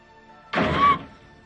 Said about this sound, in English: The door slams shut and locks behind her.